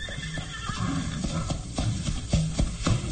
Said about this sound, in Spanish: Poco a poco, dejan de escucharse los cascos de los caballos golpear en la tierra reseca de los páramos.